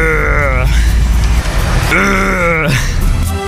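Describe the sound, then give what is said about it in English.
A person's voice imitates a kangaroo with two strained, groaning calls, the second sliding downward in pitch at its end, over a steady low rumble. “What do you imagine it sounds like?”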